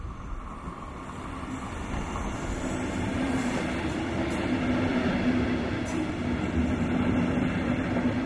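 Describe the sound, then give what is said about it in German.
An old locomotive of a small rail freight company rumbles steadily along the railway track in Bavaria, Germany, a continuous mechanical drone with a low humming tone that swells slightly louder partway through. No one speaks. “Die alte Lok verströmt einen ganz eigenwilligen Geruch.”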